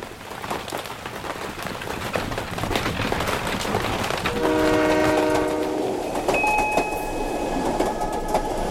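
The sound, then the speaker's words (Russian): A train rolls along the rails with a steady, rushing rumble and rhythmic clatter, and midway a long, loud two-tone horn sounds, followed by a higher whistle-like tone near the end. “Уснул и увидел себя в поезде.”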